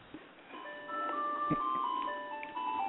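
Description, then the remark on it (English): A tinny ice cream truck jingle plays a bright, steady melody of sustained electronic tones, with a faint background hum and no talking. “That's not me with the ice cream truck, guys.”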